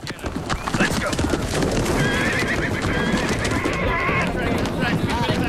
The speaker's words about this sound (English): Jameson watches with a satisfied smile as the horses gallop into a metal-fenced enclosure. A cowboy on horseback shambles past, inspecting the Mustangs.